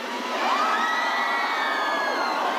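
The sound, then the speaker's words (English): A concert audience screams and cheers continuously for a band, a dense wall of high-pitched shrieks and whoops that swells slightly and holds steady at full volume throughout. “You can scream louder.”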